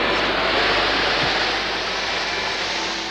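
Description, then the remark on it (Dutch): A steady, loud aircraft engine roar with a broad hissing rush, holding constant throughout with no voices. “Giro aan. Motor, Mitch.”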